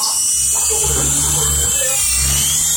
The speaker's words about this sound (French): Voilà, vous avez dû entendre un peu l'hélicoptère.